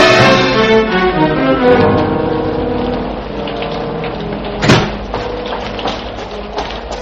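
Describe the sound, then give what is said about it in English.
Steady rain hisses outside in a dense, continuous wash, with a low tonal hum underneath early on and a brief louder splash or thump partway through. “No, it's raining outside.”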